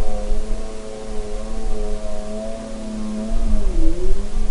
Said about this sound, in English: And then the third category is anthropophony, and that's human-generated sounds, everything from people talking while they're hiking through an ecosystem to an airplane flying overhead to something like this snowmobile.